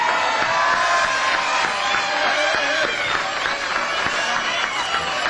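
A crowd applauds a jazz quintet, loudly and steadily for the whole stretch. Dense clapping is mixed with scattered cheers and whoops from the audience.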